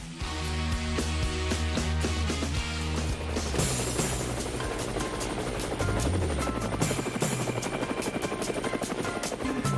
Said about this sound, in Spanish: Bueno, ahí están las aspas, amigos de Cuba, del helicóptero virtual.